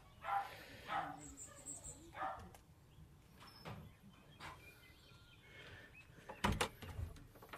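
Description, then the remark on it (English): A dog at a vicarage in Newton Popperford barks in several separate bursts, a few seconds apart, with faint birdsong and quiet outdoor ambience between the barks. “Oh, they have a dog.”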